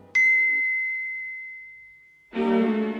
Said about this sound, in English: Waking in the middle of a snore, Scrooge again heard the clock strike one.